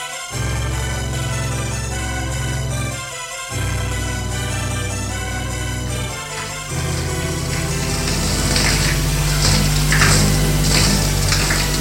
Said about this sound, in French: Dans leur chambre, ils prennent une bonne douche.